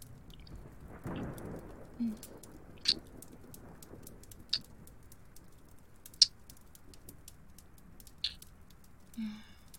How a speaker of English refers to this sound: With the storm outside, you won't be leaving anytime soon.